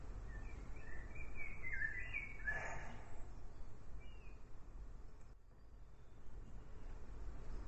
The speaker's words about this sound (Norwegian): De åpner seg, og lytter til fuglene.